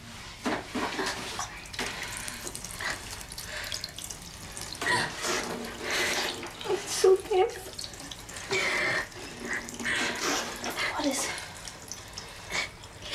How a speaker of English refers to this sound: She goes to the sink, turns on a tap, and gives her water to drink from her cupped hands.